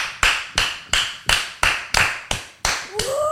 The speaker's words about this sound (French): Du coup, c'est nous qu'on applaudit et ça crée quand même une sacrée... Ambiance.